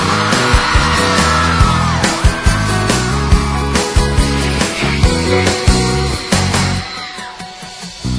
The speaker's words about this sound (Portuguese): Cadê o gritinho da galera?